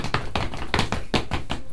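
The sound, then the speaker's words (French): Several sharp knocks on a door, knocking for the third time, about eight quick raps in uneven pairs and groups, fairly loud with no voices. “alors pour la troisième fois à la porte, frappa et dit: chers enfants, ouvrez-moi, c'est votre chère petite mère qui vous apporte quelque chose.”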